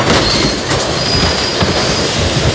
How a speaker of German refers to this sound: Ich sprang auf und zog die Notbremse.